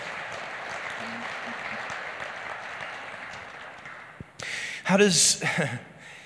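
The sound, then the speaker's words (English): An audience claps in a steady, dense wash of applause for about four seconds, then it fades and a man's voice starts speaking loudly. “Yeah, you can clap. That's worth clapping for.”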